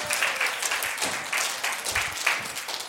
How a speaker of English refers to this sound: Okay, this bear loves the applause. Would you give him a round of applause, please? I think sometimes that's why he comes.